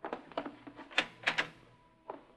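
A closet door being opened: a quick run of sharp clicks and knocks from the handle and latch, then a final thud, with no voices.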